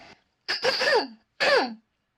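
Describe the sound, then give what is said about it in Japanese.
A person clears their throat twice in quick succession while recording, fairly loud, each a short raspy burst with a gravelly, voiced rumble, separated by a brief pause. “すいません、めっちゃ咳払い多い。”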